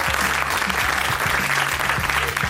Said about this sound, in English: Thank you, our audience. Give yourselves a round of applause.